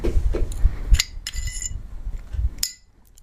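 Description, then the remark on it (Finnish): A pistol barrel being removed during disassembly for cleaning, after the slide has been taken off the pistol, a Shadow model: soft scraping and handling noise with a few sharp metallic clicks and one bright clink near the end, then quiet. “Ja nyt sieltä pitäisi saada piippu irti.”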